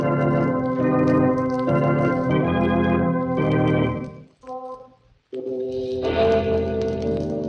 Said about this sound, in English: remember to be with us again when death whispers from the darkness in an unknown tongue and the clocks strike 12 for Murder at Midnight.